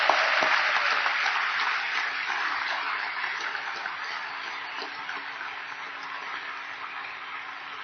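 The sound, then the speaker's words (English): A crowd claps hands in the African way in sustained, dense applause that fills the whole clip at a steady, fairly loud level, with no talking. “In an African way, we clap hands and ululate.”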